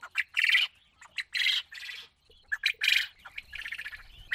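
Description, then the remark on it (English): Domesticated quail, birds sold by people in Zimbabwe, call in a rapid series of harsh, raspy squawks and chirps, several birds overlapping in irregular bursts with brief pauses between them. No one speaks. “Large numbers of Zimbabweans are making a living through selling domesticated quail birds”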